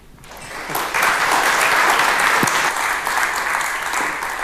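Conference audience applause welcoming the next speaker, from the Red Team in Aachen, for a talk on secure data deletion on SSDs, swells within the first second into a steady, dense clatter of many hands clapping, holding at a fairly loud level before easing slightly toward the end.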